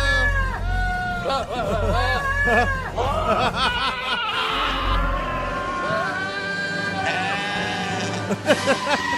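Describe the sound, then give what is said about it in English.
Goats bleat over and over, loud, each call a wavering, quavering cry. The bleats come in quick succession over a steady low rumble in the background. “Oh, I love goats. I love goats. There's the one.”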